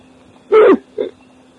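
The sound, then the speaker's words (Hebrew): A single loud sneeze, with a short sharp burst followed by a softer trailing sound, then quiet. “עוד. לבריאות.”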